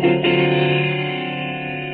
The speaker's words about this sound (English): The monotonous hum of the phone off the hook was a little unnerving, but better than that sudden shrill ring in the empty apartment.